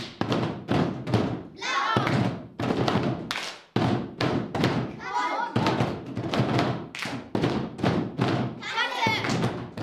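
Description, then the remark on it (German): Boys and girls drum loud, rapid Brazilian-style rhythms on buckets, dense hollow thumps in a driving steady beat, broken now and then by brief shouted voices before the pounding resumes. “Trommel mit dem Eimer.”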